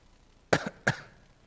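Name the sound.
coughing and throat clearing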